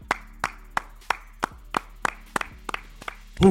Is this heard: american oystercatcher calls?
no